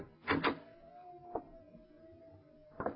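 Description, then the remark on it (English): A door is tried and opened: a double rattle of the handle, then a thin, drawn-out creak broken by a single clunk and ending in another knock, fairly quiet. “Try the door, Lamont.”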